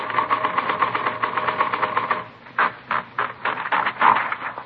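typewriter typing

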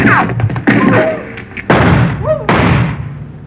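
gunshots

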